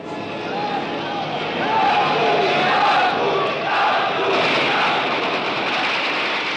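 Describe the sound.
A large crowd of several hundred young Czechs and Slovaks in Prague, gathered in front of the Party Central Committee building, roars with continuous shouting and jeering of "down with the Russians", with high whistles cutting through the dense wall of voices, swelling louder around the middle and staying steady throughout.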